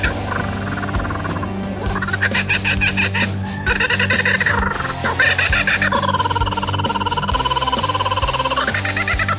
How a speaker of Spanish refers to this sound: Y la química realista de Morelia, Michoacán, nos envía el sonido específico de la cucaburra.